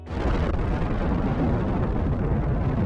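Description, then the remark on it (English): A nuclear bomb blast roars as one loud, continuous wall of deep rumbling thunder. It is heavy in the low end, sustained throughout without a break, and has no voices. “But if we're talking about explosions and shockwaves, nothing sums up these dual concepts better than nuclear bombs.”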